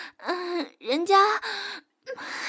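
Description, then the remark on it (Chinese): Breathy panting from a woman tired after doing housework and then showering, with voiced gasps, a few uneven bursts of heavy breath and soft moaning tone, a brief pause, then another breath. No words are spoken. “人家做完家务本来就累，接着又洗澡，本来就会喘气的呀。”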